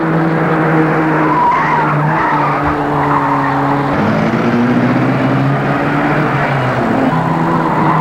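vehicle, car speeding and skidding

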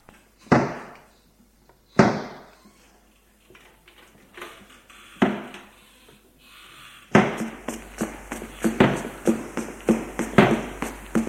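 household object, doors slamming

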